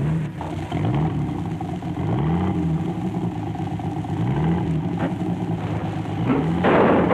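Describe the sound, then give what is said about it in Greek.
A car engine revs hard in repeated rising surges, loud, before a sudden noisy crash-like burst near the end as the car crashes into the car in front; no one speaks. “Δουλειά που πάθαμε, επισκάλισε στην του μπροστινού και έκανα στο αυτοκίνητο του Σαλεβιτζίδικο.”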